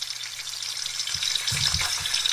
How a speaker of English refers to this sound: There's them sausages sizzling.